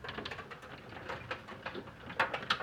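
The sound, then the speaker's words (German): Small hail pattering steadily during a strong thunderstorm with gusts from the southeast in south-east Bochum, a dense, irregular rattle of tiny ticks and taps, with a few sharper, louder hits near the end and no voices. “hier im Moment in Bochum Süd Ost starke Gewitter mit Böen aus Richtung Südost, einsetzender Hagel, derzeit noch klein, aber intensiver werdend.”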